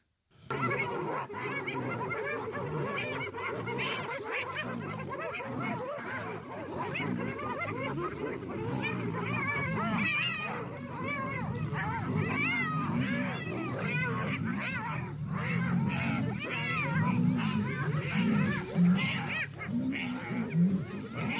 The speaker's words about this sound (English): How many knows that there's a group of hyenas can take out a lion? Did you know that? Because they team up on him.